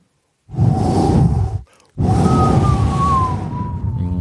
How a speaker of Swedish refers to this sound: Jag satt i stugvärmen och stickade och lyssnade på radio och den ylande stormen utanför.